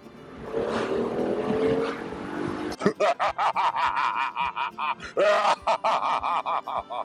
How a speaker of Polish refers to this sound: No, nie ma co ukrywać, że jazda tym autem może też po prostu dać wiele frajdy. Wystarczy posłuchać tego dźwięku silnika.